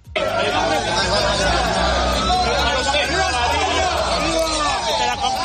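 A dense crowd of supporters murmurs and chatters continuously at the San Isidro cemetery as the hearse with the remains of Primo de Rivera arrives, police holding them behind a security cordon; many overlapping voices form a steady, loud babble with occasional louder shouts rising above it, no single voice standing out.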